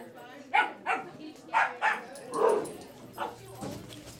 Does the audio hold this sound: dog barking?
yes